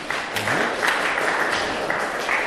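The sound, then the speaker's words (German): An audience applauds steadily for three volunteer testers, a dense wash of many hands clapping at moderate loudness with no pauses throughout. “Ein Applaus nochmal für unsere drei mutigen Tester.”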